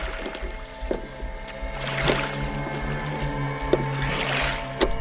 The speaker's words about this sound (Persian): نوری تو قایقه داره میره سمت ساختمون.